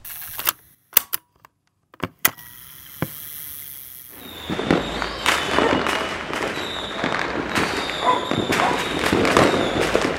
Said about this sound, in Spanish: Es la medianoche y los fuegos artificiales abren los festejos del centenario del 25 de mayo.